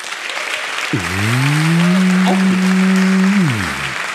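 Steady audience applause runs through the whole clip, with a loud, low droning tone like a moo or horn rising in and holding for about two and a half seconds before sliding away.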